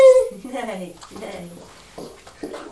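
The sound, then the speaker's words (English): A person imitates a horse's neigh with a loud, high whinnying cry that wavers and drops in pitch, followed by a few shorter voiced sounds. “Are you being a horse?”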